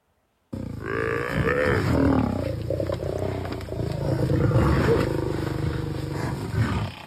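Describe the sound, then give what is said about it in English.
A lion roars and grunts loudly, a deep rumbling growl sustained over several seconds with rough, throaty bursts and no speech. “I think that was a lion trying to eat one of their young, and then they just kind of flipped it away.”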